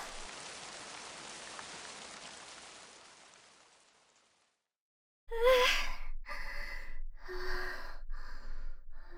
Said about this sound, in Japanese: ひどい雨ですね。調べたら交通機関もほとんどストップしてるみたいですよ。